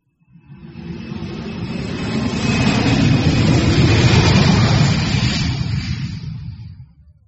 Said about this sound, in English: An aeroplane.